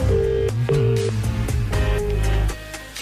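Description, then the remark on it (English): A phone line ringing during a call to the CSO, with steady electronic tones pulsing in short repeated bursts over a dense, busy background, heard loudly with no one speaking. “Let me call my stats guy. Okay. It's to the CSO we go. Let's go to the CSO. Hey, it's ringing.”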